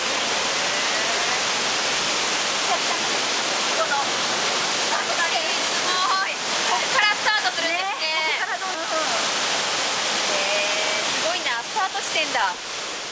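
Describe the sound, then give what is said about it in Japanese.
Heavy rushing water of the Kinokawa River roars steadily throughout, a dense, loud wash pouring through a weir gate 20 metres wide and 2.4 metres tall that holds back part of the river to send water into an irrigation canal, with people talking faintly over it in the middle and near the end. “ここで紀の川の水を一部せき止めることで用水路に水を送っているんですね。”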